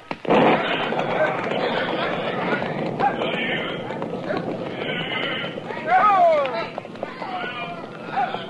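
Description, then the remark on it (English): A herd of cattle is driven along by riders through an opening in a wire fence toward water: a steady rumble of many hooves with horses clip-clopping, rising bellows around the middle, and men shouting over the din. “Now bunch the cattle in this way and start them through the fence as soon as I open the wire.”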